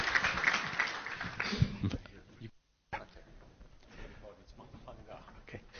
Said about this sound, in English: So why don't you give a big round of applause, please, for our next speaker talking about the future.